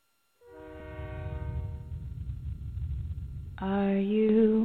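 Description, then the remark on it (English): A long, loud train horn blares over a heavy rumbling engine for a few seconds as the intro of the Trump Train campaign song, then bright music kicks in near the end as the horn fades under it. “And right now, you're going to listen to the Trump Train song that we couldn't listen to earlier because we had a power outage.”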